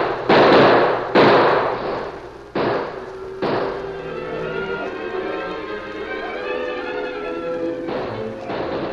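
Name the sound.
gunshots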